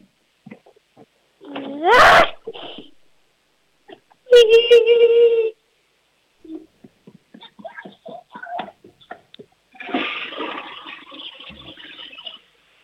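A toilet flush imitated by a voice as part of a sound game: squeaky rising whistles and a buzzing tonal burst, then a loud rushing hiss that gurgles and trails off, with short clicks and chirps between.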